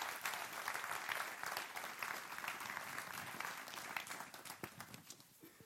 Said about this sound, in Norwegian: Gi dem en god applaus